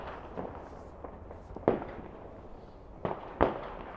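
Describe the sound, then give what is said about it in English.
Distant fireworks thud and crackle through steady low rumble, with a few sharper bangs standing out, two close together near the end, all muffled by distance. “I can see someone's letting off some sort of a very bright one that's flashing like a camera.”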